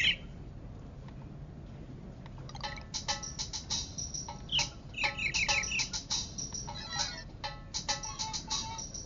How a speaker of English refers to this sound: If you want to see the laptop, you can come up and you can actually see it play some music. I can give a little demo of it. Oh, you can hear that. Okay, there you go. Birds.